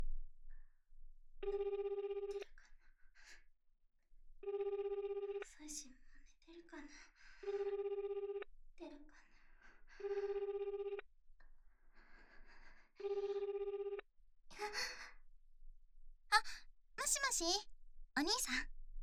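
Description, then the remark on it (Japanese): A phone's ringback tone repeats in steady, evenly spaced bursts while someone waits on the line, with a voice speaking briefly between rings and more talk starting near the end. “予定入る前に、電話、しなきゃだよね。”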